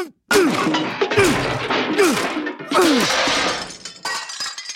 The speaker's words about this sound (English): I think we've heard about enough. I'm gonna smash this PCD with my bureaucrat hammer.